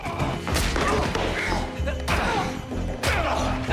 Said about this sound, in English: Mr. Bennett smashes Gabriel's head against a railing, then twists his arm.